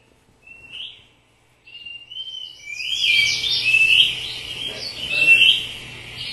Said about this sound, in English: Sounds very much like birdsong, does it not? And that is because it was birdsong.